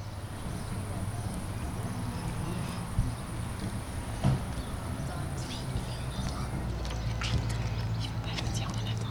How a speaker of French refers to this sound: Un escargot ? Il s'agit d'un escargot. D'ailleurs, il y a un élevage à Servaz.